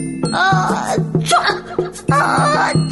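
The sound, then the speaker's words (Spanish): A voice performs a rapid string of exaggerated, cartoonish sneezes for a giraffe named Juana who has a cold, loud, in two bursts with a short pause between, over a low steady musical hum. “Una jirafa llamada Juana enfermó de resfriado y comenzó a estornudar y estornudar.”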